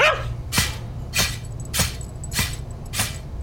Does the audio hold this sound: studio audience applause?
no